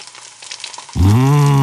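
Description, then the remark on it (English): Food sizzles in a hot pan as everything, including cut onion and garlic, goes into it: a soft crackling that suddenly swells into a loud, steady hissing roar about halfway through, with no talking. “Right, now everything has to go into the pan.”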